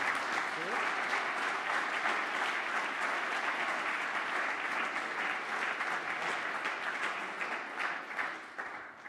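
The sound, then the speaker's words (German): Sustained applause from an audience, a dense wash of many hands clapping at a steady, fairly loud level for several seconds before it begins to thin out at the end. “Der Applaus ist natürlich schön.”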